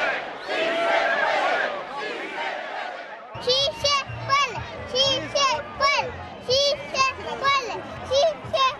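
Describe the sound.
At an immigrant rights protest march, a crowd chants loudly for a few seconds, then a four-year-old girl's high voice, helped by her mother, repeats a short chant in steady, rhythmic bursts over a low hum.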